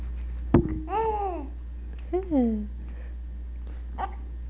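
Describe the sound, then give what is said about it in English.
A baby's sudden, sharp hiccup pops out, followed by soft cooing babble with rising and falling pitch, then a second fainter hiccup near the end. “Oops, that was a hiccup.”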